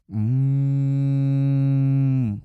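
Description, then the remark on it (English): A single long, steady cow moo, loud, sustained for about two seconds with a rich harmonic drone before tapering off, with no talking. “Around the manger where Jesus lay, there may have been cattle lowing, yes.”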